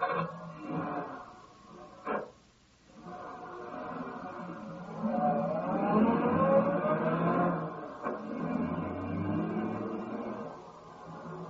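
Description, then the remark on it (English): A car engine hums and rumbles steadily, with a sharp thump early on, then rises in pitch as the car accelerates up a road, the drone easing and continuing without any voices. “Get in the car and we'll drive around a bit.”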